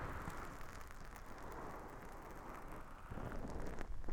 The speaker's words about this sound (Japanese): 私、雨音すごく好きなんですけど、こういう状況だとちょっと寒々しく聞こえるかもしれませんね。